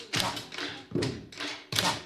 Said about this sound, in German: Trommeln mit dem Stift. Die Stifte brauchen die Buben und Mädchen heute nicht zum Schreiben, sondern zum Musikmachen. Auch mit kleinen Stiften kann ganz schön laut getrommelt werden.